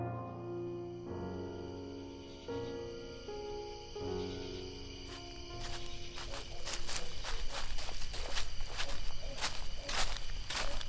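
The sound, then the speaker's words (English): Sustained, somber organ-like music gives way to a steady run of footsteps crunching along at a walking pace through a cemetery in the dark at night without a torch, the chords lingering faintly beneath the steps. “Why must we snake our way through the cemetery without a torch?”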